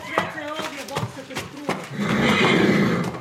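A horse whinnies in a wavering, harmonic call lasting a second or two, followed by a rough, breathy blowing sound that fills the last second.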